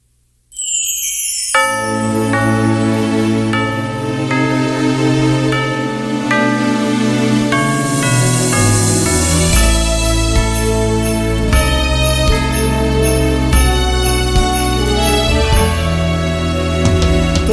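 A loud, upbeat festive song intro with bright chiming bells ringing over a full band accompaniment and a steady rhythm, played without any voices.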